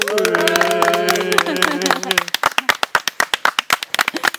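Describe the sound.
A small group claps loudly while voices cheer and call out over it. The cheering fades after a couple of seconds, and the applause turns into steady, rhythmic clapping in unison.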